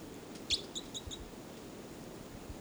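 caged bird calling

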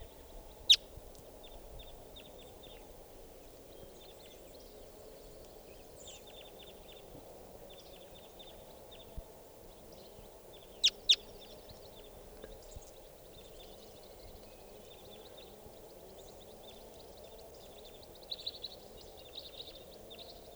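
type 4 crossbill calls

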